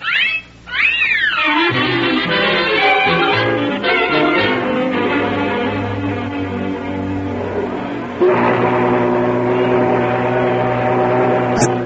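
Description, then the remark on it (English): A riverboat whistle blows loudly, its pitch swooping up and down at first, then holding as a rich, steady multi-toned chord that swells again near the end. “Listen, the whistle. We'll have to run for it.”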